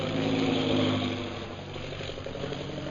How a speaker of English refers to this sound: That is one of our new bombing planes, now arriving for establishing our Purple Triangle Kingdom.